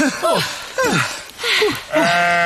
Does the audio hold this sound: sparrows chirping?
no